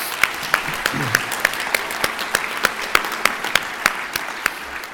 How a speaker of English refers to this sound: So if you're here in your first year, I want you to applaud right now for the one precious thing you got. And that's how much time you got.